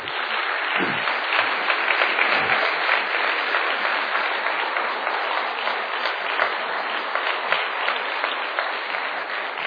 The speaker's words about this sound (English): And just for that, why don't we give God a hand clap of praise?